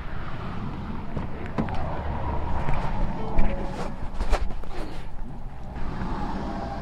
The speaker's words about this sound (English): Yeah, I see a lorry moving in.